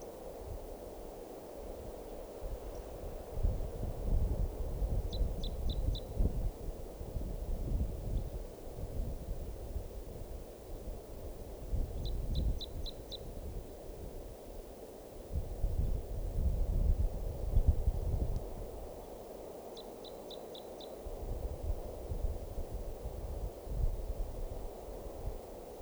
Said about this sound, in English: Recording, these are alarm calls of bird 387. That's 387, stop.